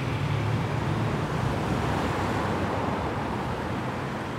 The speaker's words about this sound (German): Und nee, das Geräusche von Autos, die sind nicht ohne Grund zu hören. Tatsächlich leitet Dickrischer Dekanatskirche direkt unter Hauptverkehrsachse zu Dickrisch.